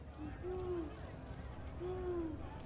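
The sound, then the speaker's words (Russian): An owl hoots twice, each call a smooth, drawn-out tone about a second and a half apart, heard over a steady low rumble of background noise. “Это просто сова, тупица.”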